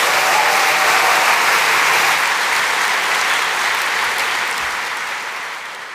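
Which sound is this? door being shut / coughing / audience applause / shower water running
audience applause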